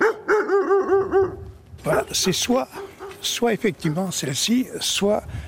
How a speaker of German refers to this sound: Also jetzt sind wir auf dem Hof und möglicherweise stören wir die Leute, die hier arbeiten. Leute stören wir nicht, der Hof liegt verlassen da. Nur ein Hund hält die Stellung.